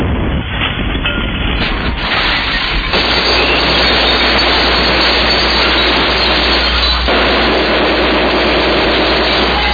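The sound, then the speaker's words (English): A Honda portable generator, bought from Home Depot, runs loud and steady with a low droning hum and a rough mechanical rattle throughout, with no one talking. “to our Honda generator we picked up from Home Despot, a great buy”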